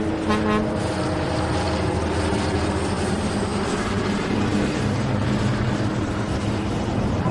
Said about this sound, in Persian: اتوبوس می ایستد و مادر و دختر سوار می شوند. اتوبوس در جاده جنگلی پیش می رود.